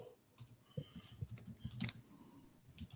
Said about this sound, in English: You're typing awful fast. Typing it in for you.